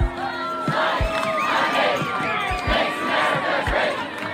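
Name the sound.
crowd chanting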